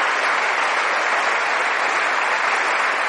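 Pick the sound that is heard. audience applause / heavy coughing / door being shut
audience applause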